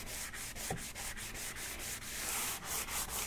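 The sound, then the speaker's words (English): Steady back-and-forth scraping of dry hand sanding, with quick regular strokes that keep a brisk rhythm throughout. No one speaks. “I've even done wet sanding, which I will not be doing with this.”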